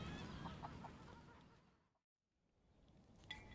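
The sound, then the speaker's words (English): A flock of a couple of hundred geese honks and cackles in a busy, overlapping chorus that fades to near silence midway, then gradually swells back with scattered calls. “you don't have four parishes to look after? Just a couple of hundred geese.”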